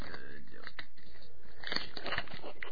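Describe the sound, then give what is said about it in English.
Muffled rustling and scraping as a small microphone is handled and fitted onto a phone, with scattered clicks and bumps over a few seconds. “Putting the mic back onto the phone.”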